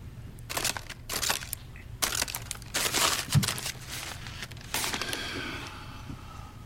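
A paper bag being crinkled: a run of loud, irregular crackling bursts with short pauses between them, with no voices.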